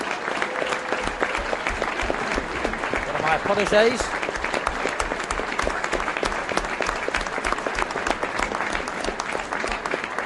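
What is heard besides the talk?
audience applause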